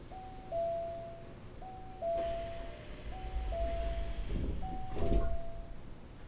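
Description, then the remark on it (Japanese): On a train in Japan, next stop Sonoda, a two-note warning chime repeats four times at a steady pace over low train rumble, with a soft mechanical whoosh and a dull thud near the end as sliding doors close. “扉が閉まりますお待ちください。”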